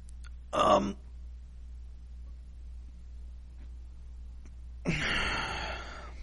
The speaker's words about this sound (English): As I'm dealing with hiccups now, so this sucks.